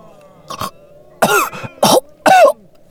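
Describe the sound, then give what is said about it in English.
A string of harsh coughs and raspy throat-clearing sounds from a man being helped to sit up, starting softly and growing louder in several bursts with short pauses between them, no speech. “helped him sit up so that he could cough and get his throat clear.”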